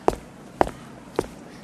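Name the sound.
footsteps walking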